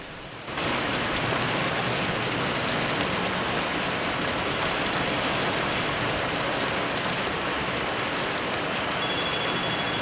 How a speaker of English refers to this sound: He gets in, and the heavy rain drums on the rooftop.